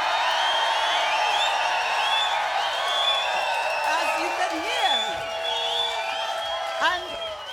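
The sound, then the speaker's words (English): A large WOMAD festival crowd at the Radio 3 stage in Charlton Park's Arboretum, Wiltshire, on a fine day, cheers steadily, a dense wash of voices with high whoops and shouts rising over it and a scattering of claps, holding at an even level throughout. “It's a fine day with a wonderful WOMAD crowd.”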